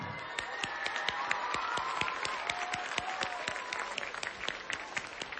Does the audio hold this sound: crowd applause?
yes